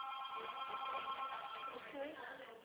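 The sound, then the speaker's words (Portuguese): A phone vibrating with a strong, steady buzz that holds for the full few seconds, its droning tone humming evenly without clear breaks. “Vibração forte no telefone.”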